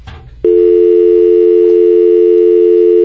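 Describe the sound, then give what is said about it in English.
After a brief burst of noise, a loud, steady telephone line tone cuts in abruptly as a call drops and drones on unbroken, with no pulsing or voices. “Well, while we're waiting to get in contact, we had a little accident on the phone board here”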